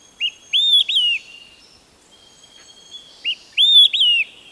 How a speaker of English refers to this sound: The whistled melody of an olive-sided flycatcher. The song carries for hundreds of yards along a forest edge. Its three notes are distinctive. Some liken the song to the phrase, "Quick, three beers!"